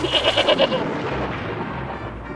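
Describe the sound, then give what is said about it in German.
A goat at a homestead in Saxony-Anhalt, Germany, lets out one short, quavering bleat, its wavering pulses fading within a second into a steady, low, rumbling background noise with no voices. “zelebrieren hier eine Heimatidylle mit Kindern und Ziegen”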